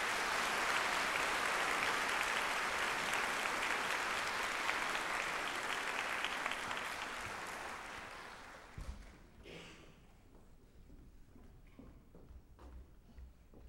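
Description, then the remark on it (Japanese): A concert audience gives sustained applause for an orchestra and choir, a dense wash of many hands clapping that holds steady for several seconds, then fades and thins out into scattered, sparse claps before dying away. “会場の皆さん、もう一度拍手をお願いいたします。”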